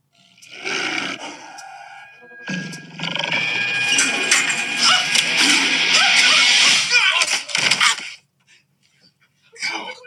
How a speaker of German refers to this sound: there is a tiger in the bathroom. What's going on? There's a jungle cat in the bathroom.